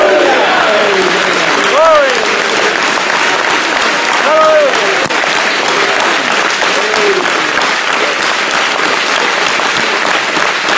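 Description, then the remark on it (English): A large audience at Branham Tabernacle claps loudly and continuously for about eleven seconds, a dense steady roar of hands, with a few voices calling out and cheering above the applause. “So let's all tell you clapping.”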